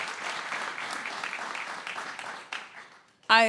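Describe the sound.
An audience claps steadily in a dense, even patter of many hands, fading slightly toward the end before a voice starts speaking loudly.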